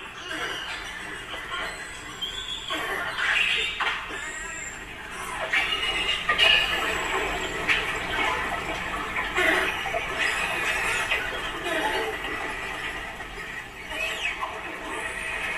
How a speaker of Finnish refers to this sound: Niin maitovalaita on sanottu merten kanarialinnuiksi, koska niiden ääni muistuttaa tämmöistä linnun viserrystä. Tässä on esimerkki, minkälainen meteli siellä veden alla on.